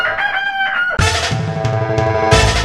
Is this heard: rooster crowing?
yes